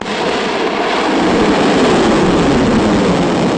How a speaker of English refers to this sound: Here's sound from Monday as the South Korean military launched a ballistic missile into the Sea of Japan, part of a live fire exercise meant to, it said, strongly warn North Korea.